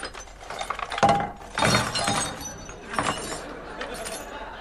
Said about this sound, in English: Well, take the drawers out and empty them onto the table.